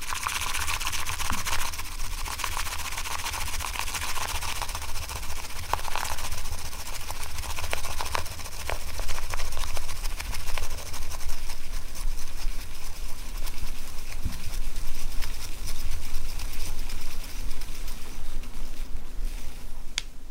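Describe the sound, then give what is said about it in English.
Matcha tea being whisked in a tea bowl after hot water is ladled in from a kettle: a fast, steady, frothy brushing that runs without pause for about twenty seconds at an even, moderate loudness, with no one speaking. “She whisks the tea.”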